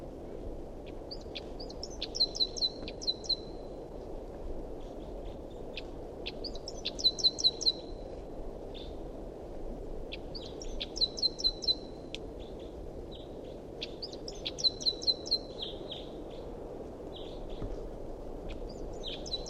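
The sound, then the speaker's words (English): A wild bird repeats a bright, high-pitched song phrase about every four seconds, each burst a quick cluster of sharp chirps and trills, over a steady low background rumble. “Recording a wild bird.”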